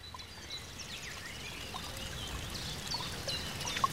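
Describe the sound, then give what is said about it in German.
Water trickles and splashes steadily in a soft, continuous babble in a modern big city, with small birds chirping intermittently in the background. No one speaks. “Ganz ruhig. Wasser plätschert.”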